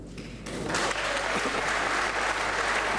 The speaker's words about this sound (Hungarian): Tapssal fogadták az országgyűlésben Orbán Viktor júniusi bejelentését.